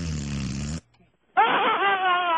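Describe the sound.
A low, buzzy fart noise holds steady for nearly a second, then breaks off into a short silence before a higher, wavering voiced sound follows, loud throughout.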